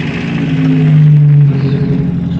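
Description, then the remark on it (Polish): A small Polish Fiat car engine hums steadily, its low drone swelling louder for about a second as it revs, then settling back to a rumbling idle. No one speaks. “Rozmawiam w polskim Fiacie, jednym z polskich Fiatów.”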